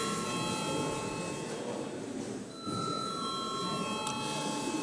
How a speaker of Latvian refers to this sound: Godātie kolēģi, kā jūs teicu, visa darba kārtība ir izskatīta un laiks reģistrēties. Lūdzu, zvanu reģistrācijai.